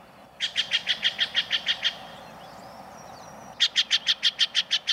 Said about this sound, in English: This loud, raucous call belongs to a common jay of the western states, the Steller's jay.